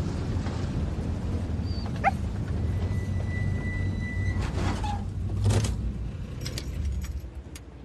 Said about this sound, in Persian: این سگم ساکت کن.